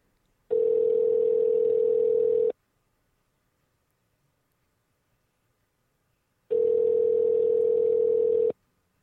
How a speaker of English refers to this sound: And I believe the phone is ringing. Oh, it is. There we go.